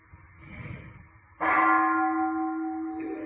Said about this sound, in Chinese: 然后去那个包括听到声音，我们的心马上就会跑到那个钟声里面去，大家去体会一下，马上就不跑就去了，那心就走跑掉了。